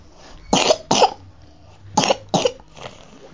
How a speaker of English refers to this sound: Cough.